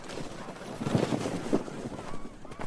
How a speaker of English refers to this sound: Fresh snow fell overnight, there's probably 3 or 4 feet of it resting over the landscape here, and the sound of snow is everywhere, with every move you make.